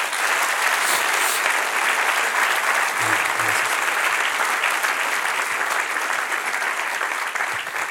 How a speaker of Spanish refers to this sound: Denle un aplauso al que es rey.